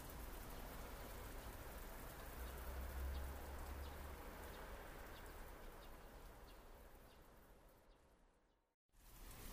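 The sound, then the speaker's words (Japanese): Steady rain pours down in a dense, constant hiss with fine pattering drops, briefly cutting out near the end before resuming; no voices are heard. “ここから近いし、雨が止むまでゆっくりしよう。”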